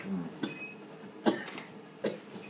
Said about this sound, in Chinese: 你那个尘肺病，你犯病的时候有啥不舒服吗？ 一直咳的， 咳的疼。肺不舒服。